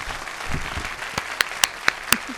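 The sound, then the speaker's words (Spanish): An audience applauds to welcome a guest onto a programme, in a dense, crackling wash that thins out, leaving a few loud, separate claps spaced near the end as the clapping dies down. “Un aplauso, bienvenida.”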